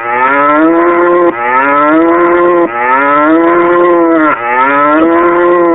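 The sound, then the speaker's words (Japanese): A cow moos loudly four times in quick succession, each long, droning low call running almost straight into the next, with no voices around it. “では所長、うん、今回の丸々味のゆで卵、牛いくついただけますか。”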